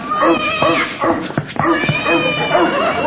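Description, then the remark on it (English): A cat yowls and caterwauls loudly and continuously, with a few sharp, bark-like bursts in the middle as a dog joins the commotion of a chase. “I'm sure the dog chased the cat back to the drugstore.”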